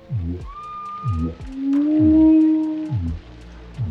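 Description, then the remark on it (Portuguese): Whale song from a whale deep in the ocean: long, gliding tonal moans, one swelling loudly in the middle, set over a repeating low pulsing rhythm, with no voices present. “Não sabia se por ser muito alta ou muito baixa, mas ela sentiu a voz da baleia em seus ossos, vibrando no seu interior.”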